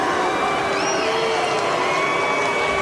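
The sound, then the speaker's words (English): A large tennis crowd boos the mention of the vaccine in a loud, continuous roar of many overlapping voices, holding steady for a few seconds with a brief whistle-like tone rising above the din. “but then they booed the vaccine. They basically booed science.”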